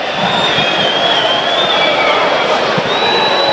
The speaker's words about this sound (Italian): Adesso qui i fischi che sentite perché Lellas si prende tutto il tempo possibile per battere la rimessa laterale.